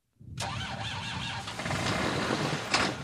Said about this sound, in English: It takes a few tries before Dennis Jones's tractor starts up. It doesn't like the cold. Jones is a corn farmer in Bath, South Dakota, where winters can be brutal.